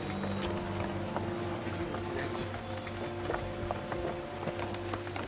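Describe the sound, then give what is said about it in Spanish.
A motorboat idles at the edge of a river as people board it, its engine a steady low drone throughout, with scattered clunks and knocks and faint voices murmuring underneath. “Luego abordan una lancha que espera a la orilla del río.”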